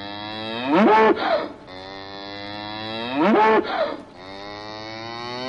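A cow moos twice, loud and drawn out, a couple of seconds apart, over a steady sustained tone that continues underneath throughout.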